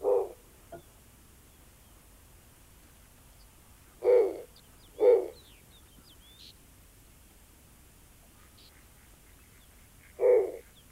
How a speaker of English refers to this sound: Jeff Robbins, our technical director today, has the song of the snowy owl.